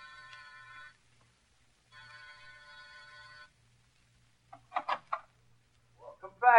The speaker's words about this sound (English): Ring the bell.